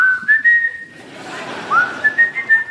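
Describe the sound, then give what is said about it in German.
A kettle boiling water for tea whistles when the water is ready, a shrill, steady whistle holding a high pitch, briefly dipping and gliding back up, then wavering over faint background noise, fairly loud. “Wenn das Wasser fertig war, hat er immer schön gepfiffen.”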